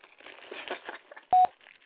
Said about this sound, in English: Record your message after the tone.